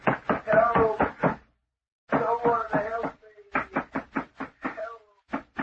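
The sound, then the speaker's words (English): Heavy, rapid pounding on a locked door in several loud bursts of blows, separated by short pauses, as a man trapped inside, threatening to break the door down, shouts in a muffled voice to be let out between the bouts. “Let me out of here. I'll break the door down. Let me out.”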